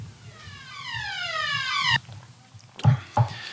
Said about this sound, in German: Das war tatsächlich gerade ein waschechter Feueralarm im Bundestag.